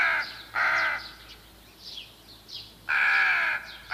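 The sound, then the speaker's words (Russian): A crow caws loudly, two long harsh rasping calls with softer, shorter croaks in between, against a quiet outdoor background with no voices. “Известная модница Ворона достала из мусорного контейнера соломенную шляпку.”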